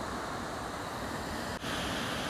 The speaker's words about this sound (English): You may be able to hear that water in the background. We're just above the Strid now. This is where the river channels down into a narrow gully and forces its way between the rocks. Really dangerous stretch of water, but yet mesmerisingly beautiful.